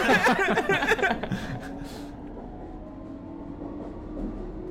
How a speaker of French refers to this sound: C'est un métro bondé.